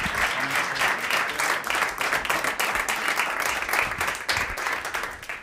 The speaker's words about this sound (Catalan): Un aplaudiment